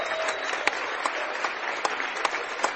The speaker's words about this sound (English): If you'll turn your attention to the east end, into the stands here behind the basket, we'd like you to give a nice round of applause for the Amity Volunteer Fire District.